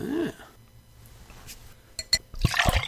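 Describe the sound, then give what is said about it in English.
A wheat beer from a growler pours into a glass for the second time, quicker than the first, with a quick gurgling splash and fizzing, a couple of light clinks, the liquid rushing in before trailing off. “Second pour is a little quicker than the first.”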